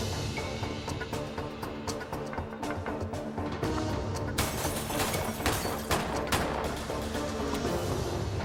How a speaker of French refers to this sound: Le témoin entendit des coups de feu.